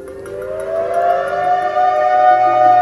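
Air raid sirens wail steadily across Israel just after dawn on a Saturday, warning of a massive Hamas rocket barrage; a sustained rising tone with layered harmonics that swells slightly louder over a few seconds, heard alone without any voices.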